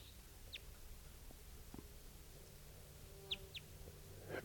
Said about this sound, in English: Wild bird. Interesting variant in type 2. Stop. So recording, here's that same type 2 bird, wild bird.